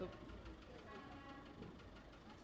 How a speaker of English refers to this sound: And, well, go away, cars. Too noisy.